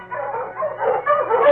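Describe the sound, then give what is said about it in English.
A pack of Malamute sled dogs, led by the dog King running ahead toward a small cabin, barks and yips together in an excited, overlapping chorus, fairly loud, with no pauses and no voices over it. “The great dog King ran ahead of the pack.”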